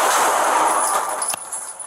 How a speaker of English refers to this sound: And a warning to listeners, this story contains the sound of gunfire. Body camera footage shows the moment an Okaloosa County Sheriff deputy shot 23-year-old